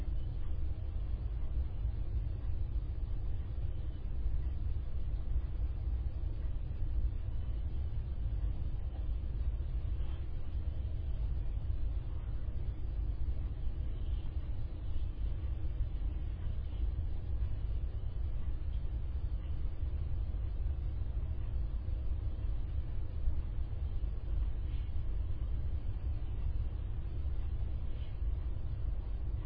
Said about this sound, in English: I can hear the sound of a truck on the road.